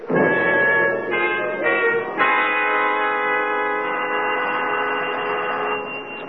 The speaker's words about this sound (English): Doesn't seem to be an answer. We'll go downstairs and wait for him. I think he's home. He doesn't answer the bell.